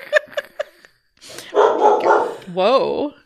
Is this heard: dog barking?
yes